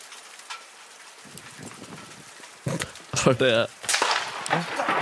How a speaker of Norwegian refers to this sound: Det er regn.